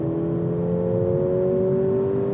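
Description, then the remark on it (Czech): Mercedes-AMG cars, a green A-Class with 380 hp and a black GLE, race from a standstill, each rated 0 to 100 km/h in 4.2 seconds. A loud, continuous engine growl climbs gradually in pitch as they speed up, with no voices over it. “Oba to umí z 0 na 100 za 4,2 sekundy. 3, 2, 1, pal! Na startu trochu vlažný, ale ten zvuk nádhera.”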